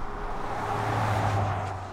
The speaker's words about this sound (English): Eventually, the sound of fast-moving cars becomes audible. We're nearing the road that Dubinsky would be taking if he were driving. And so at the very end, we hit the traffic that you've been avoiding this whole time.